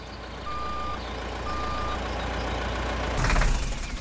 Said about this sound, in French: Un camion arrive sur la place.